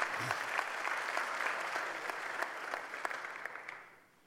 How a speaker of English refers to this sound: Yes, you can clap. That's a good thing. Go ahead.